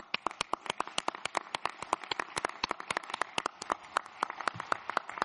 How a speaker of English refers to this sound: I think this one is for affirmation by clapping here.